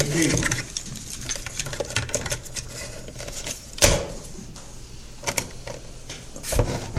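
Crinkly rustling of paper sheets being turned and shuffled, with a few sharper flaps standing out amid steady low handling noise; no one speaks.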